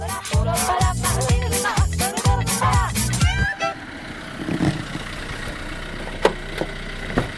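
A car engine idles with a steady low rumble after a burst of busy, tonal sounds in the first half, with a couple of faint knocks near the end.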